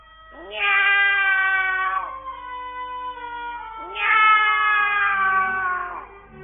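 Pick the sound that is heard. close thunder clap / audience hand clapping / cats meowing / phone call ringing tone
cats meowing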